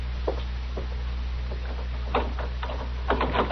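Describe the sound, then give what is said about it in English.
A door being opened: a string of short clicks and rattles from the latch and handle, growing louder and busier toward the end, over a steady low hum with no talking. “Me, open the door.”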